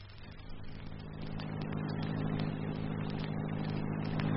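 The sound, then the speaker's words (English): A car engine hums steadily as the vehicle drives along, a low continuous rumble that gradually grows a little louder, with no one speaking. “I almost forgot to pull up at this phone box, will you?”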